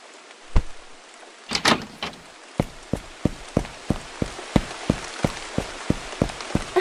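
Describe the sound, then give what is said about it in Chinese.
Steady rain hisses outdoors after a brief door-like clatter, joined by a fast, even series of thuds, like hurried footsteps splashing through the wet as someone runs out into the rain. “快回来，外面下雨呢。”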